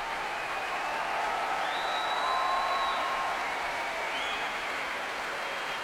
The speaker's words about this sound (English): the crowd at the Royal Albert Hall going absolutely wild for Marin Alsop tonight